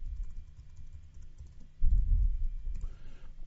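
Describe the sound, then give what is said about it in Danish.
Typing on a computer keyboard, entering two square brackets and a page name to make an internal link in a wiki: a steady run of soft, quick key clicks that grows a bit louder and busier midway, with no voices. “Når jeg er herovre, så prøver jeg lige at gå ned på en ny linje, og så laver jeg de her to skarpe parenteser, og så skriver jeg side med.”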